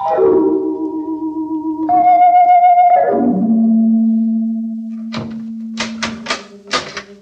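A door creaks slowly on its hinges with a long, wavering groan, then shuts with a cluster of sharp clicks and thuds as it latches. No one speaks.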